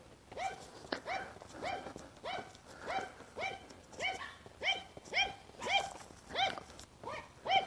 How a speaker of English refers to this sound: Oh, a yappy dog. Hush, dog, hush.